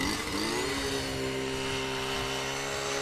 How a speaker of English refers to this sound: he's taking a power auger to the ice. As soon as I can get it running. You have to have a hole in the ice in order to catch fish off it.